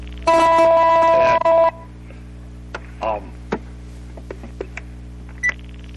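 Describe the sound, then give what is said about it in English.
A loud electronic telephone tone sounds for about a second and a half, then stops abruptly, followed by scattered soft clicks and brief beeps over a steady low hum. “Let me get that phone call off.”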